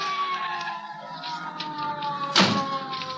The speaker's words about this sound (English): I was shaking the buzz out of my ears and scrambling to my feet when the police car screeched up to a stop.